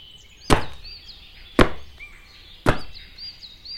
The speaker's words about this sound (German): Stell dich mal hin. Damit du nicht umfällst, hast du deine Füße. Na los, stampf mal kräftig mit deinen Füßen auf den Boden.